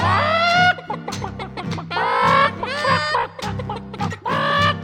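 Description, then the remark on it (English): Rapid, choppy chicken clucking, most likely a voice imitating the birds, comes in loud bursts over a steady low musical backing, with squawk-like rises between the clucks. “I got chickens.”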